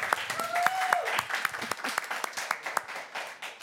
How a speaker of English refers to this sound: Like, an overwhelming percentage of our congregation is already serving. Like, that is something for us to all give a praise and an applaud to.